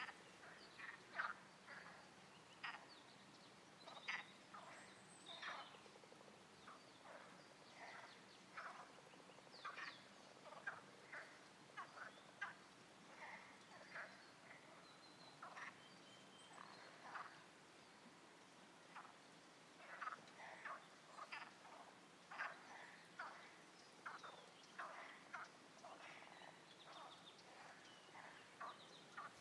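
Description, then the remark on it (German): A dense chorus of frogs and toads croaking at a small pond in Furnas, many overlapping calls pulsing steadily throughout, moderately loud with no voices. “Vögel haben wir nicht gefunden, aber Frösche, Kröten. Hier ist ein kleiner Teich und hier geht's ab.”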